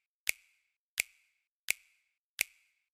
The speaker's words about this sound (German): Also, wir haben zunächst einmal diesen einen Klatscher hier, der hier die ganze Zeit durchgeht, diesen Schnipser. Schnipser, Klatscher, kann man ja auch mal durcheinander kommen, ne? Also, Schnipser.